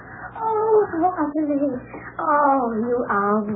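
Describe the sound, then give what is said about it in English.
Continuous warbling coos with rising and falling pitch, in two runs separated by a brief pause. The sound seems to be a human voice imitating cooing lovebirds. “They're my own lovebirds.”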